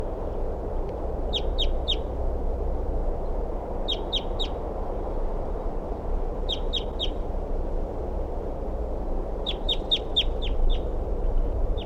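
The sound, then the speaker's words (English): A male crossbill, in the tree next to a nest tree, calls in response to other birds in four short bursts of three to five sharp, high, rapid notes, spaced a few seconds apart over a steady low rumble of background noise. “Here's that male. Responding to other birds.”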